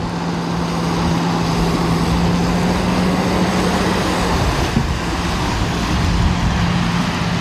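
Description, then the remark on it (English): A garbage truck's engine rumbles steadily on the road with a low droning hum, fairly loud throughout, with no voices. “Garbage truck coming.”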